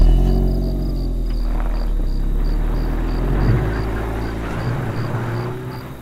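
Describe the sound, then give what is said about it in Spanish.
A car engine rumbles low and steady, its tone shifting slightly as the car starts off smoothly and slowly, with a faint, regular high chirping in the background. “El coche arranca suave y pausadamente.”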